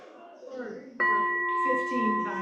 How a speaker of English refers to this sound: Oh, ring the bell. That's a nice trick. Just once?